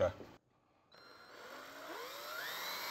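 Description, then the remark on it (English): After a brief burst of noise and a short pause, a power drill whirs steadily, its motor pitch sliding upward and shifting as it drills out a series of holes that will then be threaded with a die. “we're gonna take this, we're gonna drill out each one of these holes, and once those are done, we're gonna clear them all out.”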